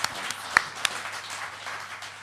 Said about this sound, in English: Cheers. I wasn't really expecting an applause, but thanks.